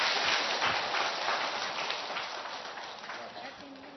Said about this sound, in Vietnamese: Rồi, cho một tràng pháo tay thưa anh chị em thật lớn.